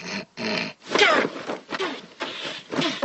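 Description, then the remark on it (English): A person snorts to clear their sinuses: about seven loud, harsh nasal snorts in quick succession, wet and grunting, with brief squealing tones in a few of the bursts and short gaps between them. “If I don't clear my sinuses, I'll snore all night.”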